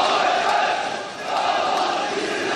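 A large crowd of government supporters at a street demonstration in Istanbul, Turkey, after the attempted coup, chanting and shouting together, a loud, dense wall of voices with a slight dip and swell in the middle, no single speaker standing out.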